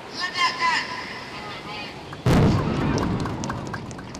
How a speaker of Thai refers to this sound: ครับนั่นก็เป็นเสียงการระเบิดเรือประมงนะครับโดยทางการอินโดนีเซียนั่นเอง